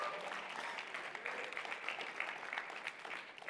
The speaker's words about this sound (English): So, hey, help me out. Friends right now are joining us online, and I want to make sure they know that we appreciate them and want to welcome them. Help me out with a hand clap.